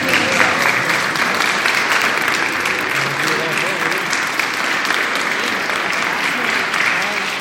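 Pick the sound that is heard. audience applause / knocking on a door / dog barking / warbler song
audience applause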